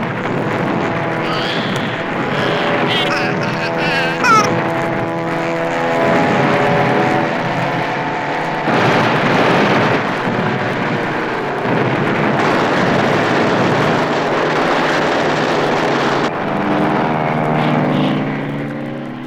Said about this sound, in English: Look at him as he zooms through the sky, while anti-aircraft shells burst all around him.